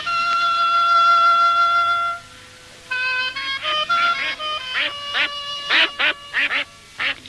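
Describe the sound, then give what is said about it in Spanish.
Geese honk and quack: one long, drawn-out nasal call, a short pause, then a rapid, overlapping run of choppy honks and quacks, loud and clear with no voices. “Y ocurrió que el rey de aquellas tierras, que tenía 60 gansos y necesitaba una pastora que se los cuidase, le preguntó si quería encargarse de los gansos, a lo que ella accedió.”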